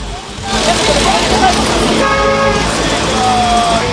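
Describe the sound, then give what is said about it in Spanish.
Busy road traffic on the Carretera Central, congested by construction of a new metro line, with car horns honking, several sustained toots over a steady, loud wash of engine and street noise. “El tráfico es acá horrible todos los días.”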